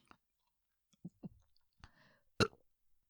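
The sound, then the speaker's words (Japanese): A few quiet gulping clicks as air is deliberately swallowed for burp practice, then a short, small burp, with faint mouth noises afterward. No one speaks. “こうやって、でもまだこのちっちゃなゲップしか出ないんですよね。”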